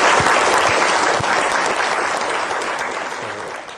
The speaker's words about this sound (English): Thank you, Bill. Let's give Bill a round of applause.